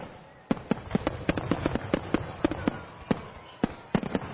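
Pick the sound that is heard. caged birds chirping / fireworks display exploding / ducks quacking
fireworks display exploding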